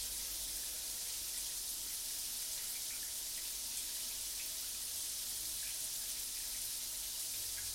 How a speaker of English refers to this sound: And this is a super relaxing, deep shower. So deep that every single muscle is just letting go.